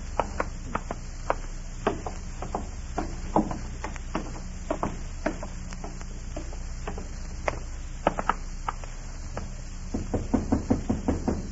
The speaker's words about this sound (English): Stand out there and knock.